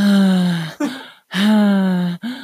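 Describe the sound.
A voice imitates a friend's loud, heavy breathing: two long, drawn-out, strained breaths with a short pause between them, prominent, with no ordinary talk.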